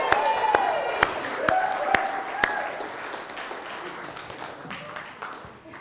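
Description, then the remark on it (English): A gathering of believers breaks into applause for the Lord, scattered claps overlapping with excited cheers and whoops, rising briefly then thinning out as the clapping fades over several seconds. “You know, you just kind of got to give a shout out to the Lord or a hand clap or something.”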